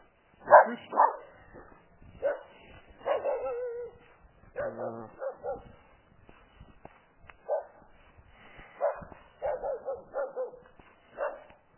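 A puppy barks in a rapid, irregular string of short yips and whimpers, moderately loud, with brief pauses between bursts and no one talking.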